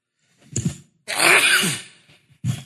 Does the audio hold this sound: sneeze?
yes